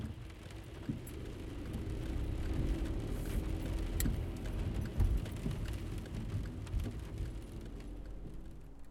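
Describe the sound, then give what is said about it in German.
A steady low rumble of a car driving out of town, heard from inside the cabin, with road noise and occasional small clicks and taps over a constant engine drone. No one speaks. “Also wir fahren jetzt mit dem Auto aus der Stadt heraus und mehr verrate ich mal nicht.”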